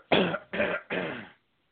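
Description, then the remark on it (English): Three harsh, rasping throat-clearing bursts in quick succession, loud, each broad and noisy, then silence. No speech. “Let me clear my throat.”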